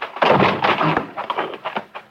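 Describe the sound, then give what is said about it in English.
A side door at the back of a house, by the kitchen, is forced open with a series of heavy thuds and crashes, a sharp bang near the middle, amid rough scuffling and rattling. “Hit that side door.”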